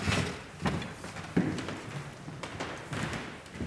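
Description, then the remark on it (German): A hidden, locked door being unlocked and opened: a series of short metallic taps and clicks with a couple of duller thumps, moderately quiet, with no voices. “Jetzt müsste ich jetzt wieder die Tür aufschließen.”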